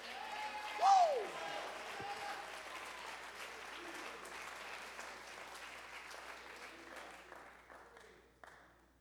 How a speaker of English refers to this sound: If you serve that God, you ought to get up on your feet, clap your hands right now, and thank God that he hears.